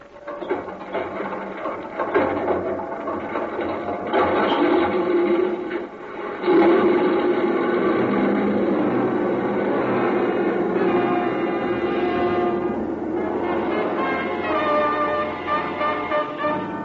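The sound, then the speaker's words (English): A C-54's number three piston engine starting: a rhythmic mechanical clatter while it cranks, then a surge as it catches and settles into a loud, steady, throbbing roar. No one speaks. “Okay, clear number three engine.”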